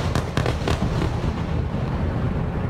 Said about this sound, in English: Explosions heard through the night. Gaza firing airstrikes towards Israel as Israel upped its offensive against Gaza, hitting from air, land, and sea.